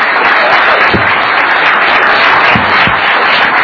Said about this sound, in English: Thank you, legislators, and I would like to give them a big round of applause for being with us here tonight.